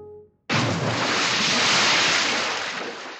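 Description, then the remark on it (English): Harbor waves in Boston Harbor, 1774, beside the deck of a cargo ship in darkness make a steady, loud wash of water that starts abruptly after a brief low hum and rushes on without a break to the end, with no voices. “Boston Harbor, 1774. Two figures huddle on the deck of a cargo ship, there in the darkness.”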